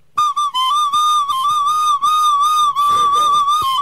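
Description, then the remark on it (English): A whistle blown hard gives a loud, shrill, sustained tone that wavers slightly in pitch, breaks off briefly twice early on, and turns rough and breathy near the end. “You're blowing too hard.”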